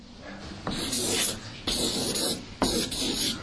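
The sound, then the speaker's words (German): A marker pen squeaks and scratches across a board in three quick strokes as the abbreviation of "Jüngerschafts- und Prophetenschulen" is written. Each stroke starts sharply about a second apart, with a steady hissy rubbing in between and no talking. “Ich hoffe, dass der Stift durchhält.”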